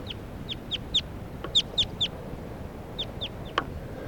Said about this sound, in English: And I think right now I hear alarm calls of a crossbill coming from about 100 yards due south.